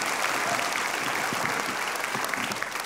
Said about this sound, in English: Just one more hand of applause for Travis right there.